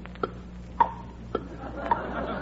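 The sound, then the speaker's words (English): A clock with an alarm set to ring at 12, shortly before 12 o'clock, ticks steadily: four crisp, evenly spaced ticks about half a second apart over a low, quiet hum, with no one speaking. “In case you weren't, I brought this clock. Listen.”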